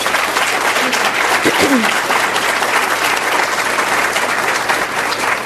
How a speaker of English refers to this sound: We don't have enough opportunities to honor these people, so let's please, before we do anything else, give everyone who serves on the front lines a big round of applause.